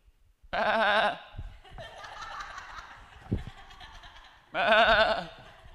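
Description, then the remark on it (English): Two loud, quavering sheep bleats, each about half a second to a second long, separated by several seconds of softer, scratchy background noise and a faint thump. “What's that bleeding of sheep I hear?”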